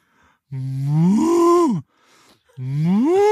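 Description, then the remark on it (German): A person imitates a cow on request, giving two long, rising moos with a brief pause between them, loud, each swelling in pitch before cutting off. “Sag mal, mach mal eine Kuh.”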